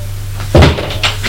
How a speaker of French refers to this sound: La porte de la cuisine s'est ouverte.